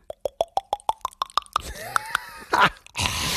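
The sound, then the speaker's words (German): A voice imitates beer glugging as it's poured: a quick run of about nine hollow, wet plops climbing steadily in pitch, then trailing off into breathy, hissing noise. “Ja, dann ich gieß nochmal nach. Klock, klock, klock. Komm, mach, du kannst das Geräusch nochmal.”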